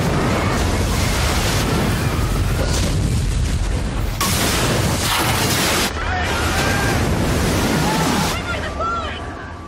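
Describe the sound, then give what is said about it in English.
A tsunami wave crashes ashore in a loud, continuous roar of churning water and deep rumbling booms, with faint cries or shouting voices buried in the torrent; a 2012 film depiction of a 20-foot-tall wave of the 2004 Southeast Asia tsunami. “It's not that they got hit by a 20-foot-tall wave, as depicted here in the 2012 movie The Impossible.”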